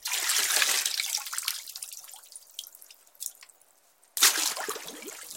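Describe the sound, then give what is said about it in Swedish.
Water splashes and trickles in a bathtub, with scattered drips falling in between; a louder burst of splashing returns near the end. Fairly loud, no voices. “få fantasin att vandra iväg på okända strövtåg än mitt eget badkar”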